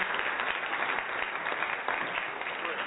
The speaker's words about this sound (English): We're going to give moms a round of applause.